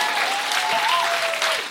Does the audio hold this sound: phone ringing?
no